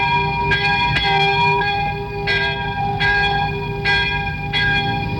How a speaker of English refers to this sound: 8 o'clock, the moment of peace. At the little Catholic church in Cu Chi, the mass was interrupted so the bell could be rung in celebration.